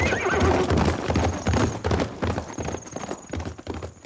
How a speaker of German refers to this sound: Wie pfeilschnell sein Pferd davonsprengt. Was das wohl bedeutet?